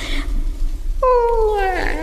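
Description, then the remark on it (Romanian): A single loud cat meow, lasting about a second with a drawn-out, falling pitch, over a faint low background rumble. “Îndată o să dea ochii drăgărașii de ei cu signora pisica.”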